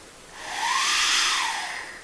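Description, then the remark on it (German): Air is blown into the 3D-printed generator part of a whistle, on its own, making a steady breathy hiss like coloured noise, with a faint hollow tone that rises and falls as the breath swells and eases, with no clear whistle. “Und wenn ich da reinpuste, macht es auch einen Ton. Klingt aber ganz anders.”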